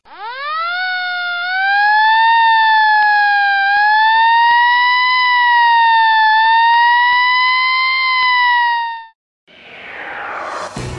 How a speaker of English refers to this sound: When you hear those sirens, do you say to yourself, "Wish I could do that"?